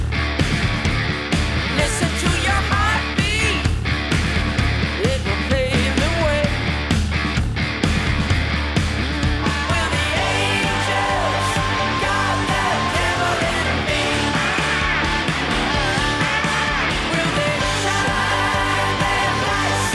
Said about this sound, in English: And then you have some nice screaming in there too.